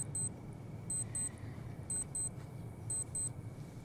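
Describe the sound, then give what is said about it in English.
A small digital watch timer beeps in quick double chirps, repeating about once a second, high-pitched and fairly faint over a low steady rumble, with no talking, as the watch timer is stopped. “Andy stops his watch timer, hesitantly looking over at Michael.”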